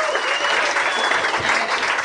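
An audience claps steadily, a dense wash of many hands at a constant loud level, with a few faint cheers mixed in and no break through the whole stretch.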